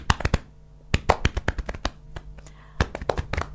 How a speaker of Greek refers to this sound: Και πάμε να χτυπήσουμε το στήθος μας, γιατί μπορεί να ακούγονται και μπουμπουνιτά από μακριά.